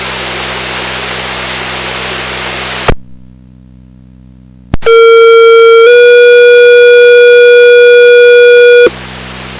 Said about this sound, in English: This is a Thursday night pager test for Gunderson Ambulance Pagers. This is a pager test only.